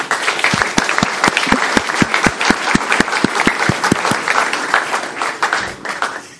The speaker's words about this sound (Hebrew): שאנחנו רוצים להודות לקבוצת בולגריה, אנחנו חושבים שמגיע להם לחיות כפיים, עברו עבודה קשה מאוד, והם מסתכלים כן. עלינו, וכדאי שנמחא כפיים.